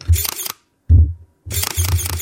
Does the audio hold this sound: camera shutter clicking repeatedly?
yes